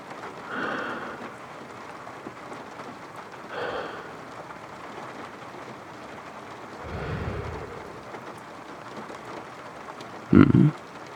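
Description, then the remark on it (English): Slow, soft breathing: three airy breaths spaced a few seconds apart over a steady hiss, then a sharper, louder puff of breath near the end. No words are spoken. “I'm just breathing, that's all.”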